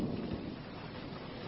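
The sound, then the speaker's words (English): Steady rain hisses across a wide band with a low rumble of thunder underneath, a continuous, fairly quiet wash of storm noise with no voices. “Here comes the rain.”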